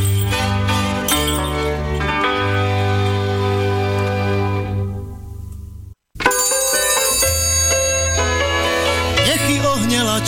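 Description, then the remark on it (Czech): Bright metallic ringing of an anvil struck by a blacksmith's hammer on iron repeats over sustained tonal layers. It cuts out briefly midway, then resumes loud, with no voices. “Výheň rozáří, do železa začnou bušit kováři.”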